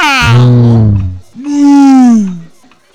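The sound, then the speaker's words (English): A person's voice imitates a cat meowing twice, two drawn-out, wavering meows in quick succession, loud, with no other sound around them. “I'm a cat. I'm a cat.”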